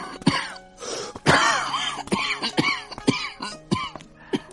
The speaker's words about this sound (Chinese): 这位老人六十余岁，长得高高瘦瘦，面皮焦黄，却留有一头长到披肩的白发。这老者一边走一边不停地弓着身子咳嗽。